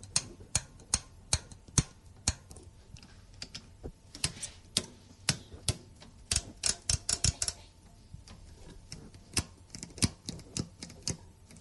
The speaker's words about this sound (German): Und wir hören jetzt die Drehknöpfe.